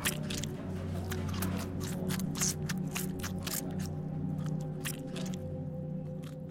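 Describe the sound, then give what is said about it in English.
Someone bites into and chews a sandwich: a quick run of moist, crunchy chomps at an uneven rhythm, moderately loud over a steady low hum, with no talking. “Satisfied, he picks up one of the sandwiches, unwraps it slowly, almost lovingly, and then falls upon it with an animalistic snarl.”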